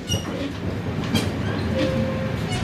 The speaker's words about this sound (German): Der Zug, der die etwa 100 Passagiere in dieser Nacht in den Süden des Landes bringt, ist dagegen noch recht neu. Erst vor 5 Jahren wurden die rot-weißen Waggons und der Triebwagen von einem chinesischen Hersteller in den Irak geliefert.